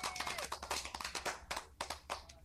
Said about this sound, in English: Oh, I got to give him a clap. I got to give him a clap, man. True point guard right there. I got to give him a clap.